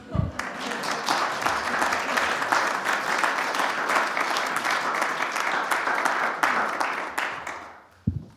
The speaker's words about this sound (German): Könnt ihr kurz klatschen? Ich drehe das so lang auf.